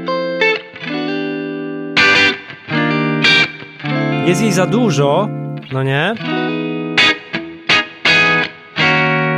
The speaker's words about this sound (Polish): Dla tych, co nie widzą, wpiłem Telecastera. Ok, więc słychać strasznie dużo górki, ale jak na przykład wybierzemy sobie przetwornik przy gryfie, to robi się ta bardzo charakterystyczna pleksowa szklaneczka.